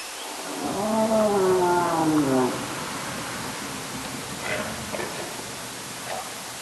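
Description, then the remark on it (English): A whale's long, moaning call with rich harmonics, recorded by underwater hydrophones in the ocean off Alaska in quiet seas, rises and bends over steady underwater hiss, followed by a few fainter, shorter whoops in the background noise. “Michelle is now set to record an entire summer of whale sounds in strangely quiet seas”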